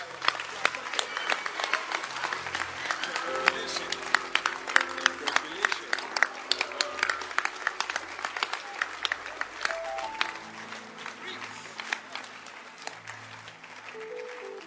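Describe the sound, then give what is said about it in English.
An audience claps for women in a dense, steady burst of applause that carries on for about fifteen seconds, with held instrumental tones and scattered voices underneath. “Clap for women again.”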